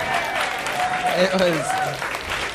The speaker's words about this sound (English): You're welcome to applaud for that rhyme.